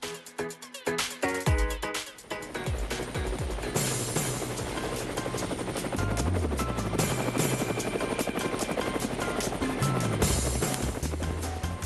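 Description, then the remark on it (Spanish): A helicopter roars, its rotor chopping in a rapid, steady thump over a dense whine of engine noise, staying loud throughout with no voices. “Bueno, el helicóptero lo dice todo.”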